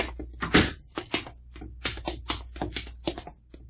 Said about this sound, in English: Hold it. Open the door